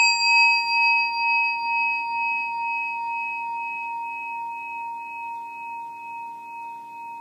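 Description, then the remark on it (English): A single meditation bell rings out alone during a seated meditation session, with a clear, sustained tone, its shimmering overtones pulsing gently as the sound slowly fades over several seconds. “And listen to the bell and let it out, totally relax.”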